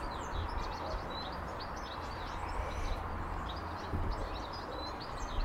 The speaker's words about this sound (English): Yeah. I think it's a sparrow. There were some shouty sparrows again this morning. Yeah. Did you hear those? What is that? It might be a chaffinch. Or is it a sparrow? It's probably a sparrow.